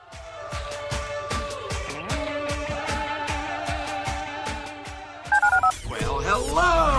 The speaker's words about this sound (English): Dial the phone.